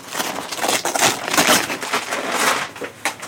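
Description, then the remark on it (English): A brown paper package is unwrapped: stiff brown paper is torn and crinkled in a continuous rustling burst, with sharp ripping peaks and crackles over about three seconds, no voices present. “The package was wrapped neatly in brown paper.”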